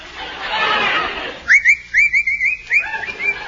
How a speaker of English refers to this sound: What's the matter with you? What are you whistling for? Huh? Nothing. Can't a fellow whistle?